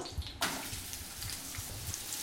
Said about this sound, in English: Yeah, you're going to sauté sauté those up. Ooh, I like that sound. You did a fine job slicing these onions.